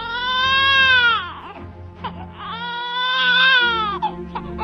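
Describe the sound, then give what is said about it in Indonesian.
A baby wails in two long, strained bursts separated by a brief gasping pause, loud, over a steady low hum in the background. “Petinggi hulu dusun mempercepat perahunya menuju ke arah munculnya suara tangis bayi itu.”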